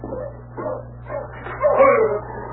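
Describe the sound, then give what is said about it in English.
An arriving sled dog team yips and barks in overlapping bursts, growing louder and more excited toward the end over a steady low hum. “Hey, there's somebody coming in with a dog team.”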